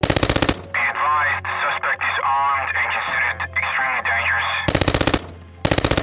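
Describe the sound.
Loud, rapid bursts of automatic gunfire from a shootout between police and bank robbers rattle out at the start and twice near the end, separated by a stretch of muffled, wavering voices over a low rumble.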